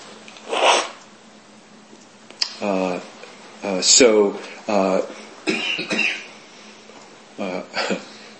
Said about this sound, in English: Poor … sitting next to me and coughing and hacking